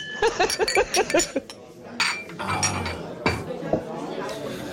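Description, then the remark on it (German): Glasses clink together in a toast, a few bright, sharp taps, following a moment of indistinct voices and a faint clatter of tableware. “Ich nehme auch mal einen Schluck. Ja, oh. Prost, Prost, hier.”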